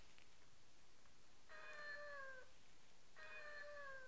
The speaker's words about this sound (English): Is that a cat? Is that a kitty cat?